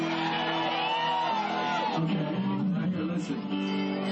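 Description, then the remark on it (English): An audience shouts and whoops together in a loud, sustained roar lasting several seconds, answering a call for a hallelujah, with individual voices rising in excited yells over the mass of cheering. “Can I hear a hallelujah for the hate?”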